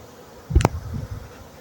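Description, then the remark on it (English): A low, steady buzzing of a docile swarm of honeybees pouring out like a whirlpool hums throughout, fairly quiet, broken by a single brief knock partway through. “It's like a whirlpool right now. Bees just pouring out.”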